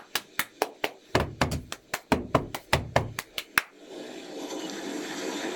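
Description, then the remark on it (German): Audience applause for all participants of a competition: sharp, evenly spaced claps ring out about four times a second for several seconds, then give way to a steady, dense wash of clapping noise. “So bitten wir um Applaus für alle Teilnehmer unseres Wettbewerbes.”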